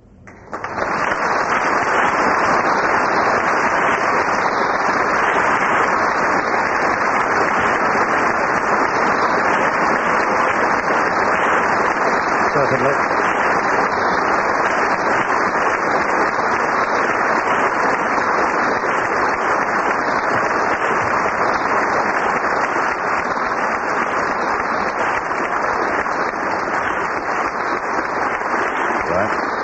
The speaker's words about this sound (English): This audience of 800 distinguished guests rises to applaud a witty and indeed a moving speech by Her Majesty. Her Majesty the Queen was speaking to the whole Commonwealth on this Jubilee Day of the 7th of June.